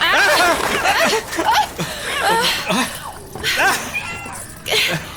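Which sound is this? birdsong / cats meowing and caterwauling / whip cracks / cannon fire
cats meowing and caterwauling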